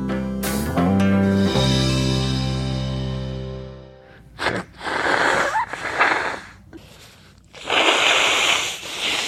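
A held musical chord fades out. Then come several loud, breathy bursts of someone blowing their nose, rough honking gusts separated by short pauses, with no talking.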